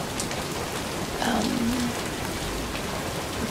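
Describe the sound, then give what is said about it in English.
Steady rain falls continuously outside in an alley, a dense hiss of drops on surfaces throughout, with a brief faint tonal sound partway through. “Thomas, what are you doing? It's raining.”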